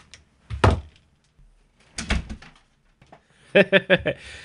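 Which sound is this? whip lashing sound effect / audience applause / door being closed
door being closed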